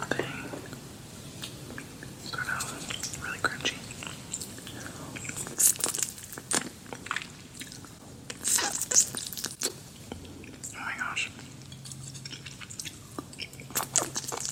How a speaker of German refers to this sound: Und ich hasse eigentlich Essgeräusche wirklich. Ich auch. Ich kann das gar nicht haben, wenn jemand schmatzt. Ich bin da super empfindlich, aber irgendwie holt mich das total ab.